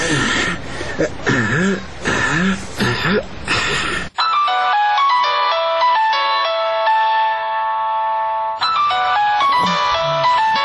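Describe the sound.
A person talks briefly, then a mobile phone ringtone plays a bright, repeating electronic melody on its own for several seconds, loud, before talking resumes over its final notes.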